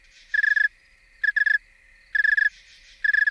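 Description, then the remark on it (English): A very cold male snowy tree cricket (Oecanthus fultoni) sings slow chirps, each made of three or four distinct pulses, repeating steadily about once a second, clear over a quiet background with no talking. “You can now hear the individual pulses in a chirp.”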